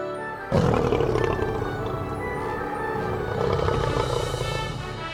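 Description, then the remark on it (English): A lion roars loudly, a deep sustained rumbling roar that starts abruptly after a brief silence and continues without pause, with no voices present. “Lion.”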